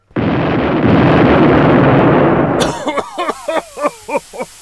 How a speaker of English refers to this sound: That's because a joke bomb has just exploded and the room is very smoky.